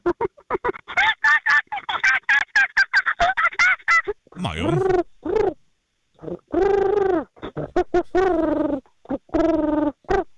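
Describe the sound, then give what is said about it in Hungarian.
A person imitates a pigeon and chimpanzee dialogue: rapid, choppy chimpanzee-like hooting bursts, then warbling swoops and drawn-out cooing like a pigeon, alternating with brief pauses between calls. “Akkor egy pici galamb csimpánz párbeszédet hagy halljuk.”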